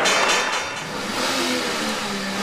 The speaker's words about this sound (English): The roar of a Chevy Camaro on the New York Stock Exchange ushering in GM's return to publicly traded life for the first time since bankruptcy.